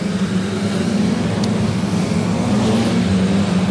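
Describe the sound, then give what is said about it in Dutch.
A race car engine, restarted after the car spun around backwards, runs with a loud, steady droning hum, unbroken for the whole stretch, with no voices over it. The car is smoking a little. “Ben heeft hem aan de praat gekregen. Rookt wel een beetje.”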